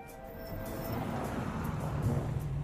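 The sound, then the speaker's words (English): A car pulls away from a store, its low engine rumble building steadily over a few seconds with a broad hiss of road noise and no voices. “The car pulls away from the store.”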